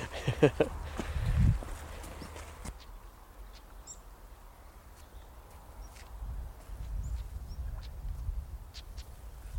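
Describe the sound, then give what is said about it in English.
A stonechat on a heath gives sharp, clicking chak calls like two pebbles tapped together, repeated at irregular intervals. The calls are fairly faint over low outdoor wind rumble and some handling noise. “Folks, just over here is a stone chat.”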